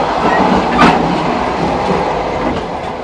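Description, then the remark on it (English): Loud, dense rattling and rumbling of a passenger train, with a sharp metallic clank near the start and continuous clatter throughout, heard while walking through the gangway between carriages. “I love it when the train hits a curve just when you're going through that the compartment between the carriages.”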